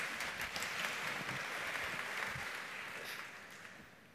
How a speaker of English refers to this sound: We give her a clap.